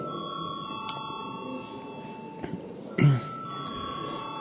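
parliament chamber bell ringing

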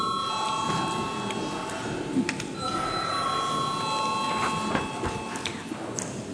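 parliament chamber voting bell

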